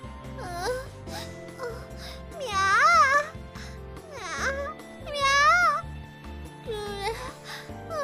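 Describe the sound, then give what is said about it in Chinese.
A human voice mimics a cat, making a series of drawn-out, swooping meows with rising and falling pitch. The meows are fairly loud, with soft murmurs between them. “可以让人重新体会到自己是主人的猫娘亲人的喵。”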